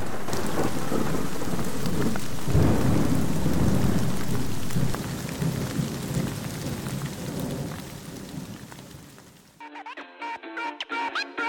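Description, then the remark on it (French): Heavy, steady rain pours down in a dense hiss, with a deep rumble of thunder swelling underneath, then the downpour cuts off abruptly as music takes over near the end. “La nuit tombe à grosses gouttes, tous les chats que la pluie dégoûte se retrouvent chez moi.”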